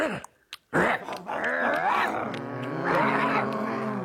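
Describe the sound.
A human voice imitates a dog barking in a Beckett radio play, starting with a couple of short sharp bursts, then drawn-out growling, whining barks that rise and fall. Loud and continuous, with no other sounds.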